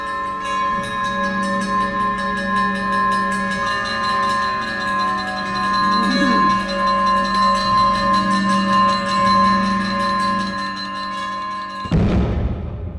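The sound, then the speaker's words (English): A clanging bell rings steadily with long, shimmering overtones while a wailing siren rises and falls beneath it, loud and continuous, before everything cuts off abruptly near the end; the opening sound of a stage play. “starts with a simple idea, a clanging bell backed by a wailing siren.”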